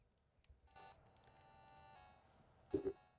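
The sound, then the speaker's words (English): Faint electronic tones from a phone being dialed, a few sustained beeps in a row, ending with a brief louder clunk of handling. “I guess I'll make a phone call.”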